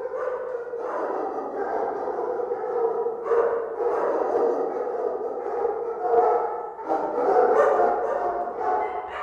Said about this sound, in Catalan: Els 58 gossos, la majoria cadells, que una operació policial va confiscar en una propietat de Sant Feliu de Codines perquè formaven part d'una xarxa internacional que traficava amb animals, han tornat a ser notícia.